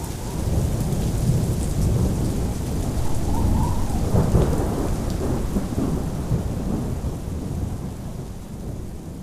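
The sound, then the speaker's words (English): A heavy night storm roars steadily outside, with dense rain pounding down and deep rumbling gusts of wind, loud and continuous throughout with no voices. “They had no problem falling asleep, despite the continuing rage of the wind and rain outside.”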